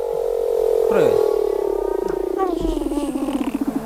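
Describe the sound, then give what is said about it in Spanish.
A voice imitates a crabeater seal call: one sustained, wavering, mid-pitched moan that breaks into a rapid throaty pulsing toward the end, loud and steady throughout. “La foca cangrejera era esa.”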